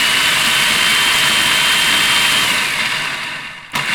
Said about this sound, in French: Vous aurez peut-être reconnu le bruit infernal d'un robot mixeur, le mien qui est particulièrement infernal.